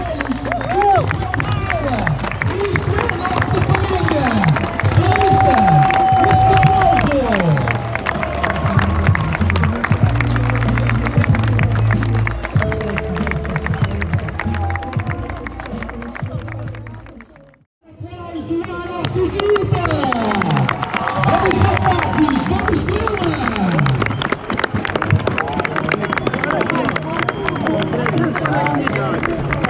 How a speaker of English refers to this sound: But for now, big round of applause for the kids.